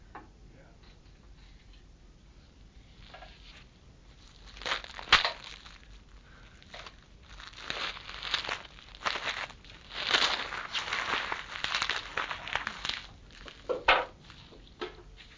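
Paper with many colours in it rustles and crinkles in irregular bursts, quiet at first and then busier and louder, with sharp crackling handling noises and brief pauses between them.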